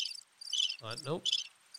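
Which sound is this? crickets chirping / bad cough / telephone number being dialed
crickets chirping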